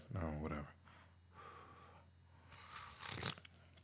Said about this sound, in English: What I'm sipping tonight is more of that buttery tea. I'm hoping this is cool enough that I can actually take a sip. Y'all can listen to me blow my tea.